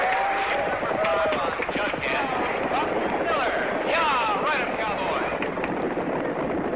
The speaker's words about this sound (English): and there's a new sound to be heard out in Oregon's Central Valleys this year, the exciting charge of America's best racing boat drivers, competing for the National Stock Outboard Championships on Prineville Lake in mid-August.